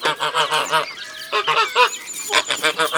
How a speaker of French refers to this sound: Les oies.